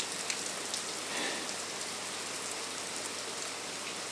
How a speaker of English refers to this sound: Play has been abandoned for a moment. Sheltering below a tree. Yep, you guessed it. It's raining so heavy, the air is actually grey.